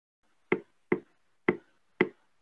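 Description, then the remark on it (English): Four sharp knocks on a wooden door set in a tree, arriving in an uneven rhythm, two, a short pause, then two more, each a dull, hollow thud with a quick decay. “As she had no other ideas on where she should go, she knocked on the door.”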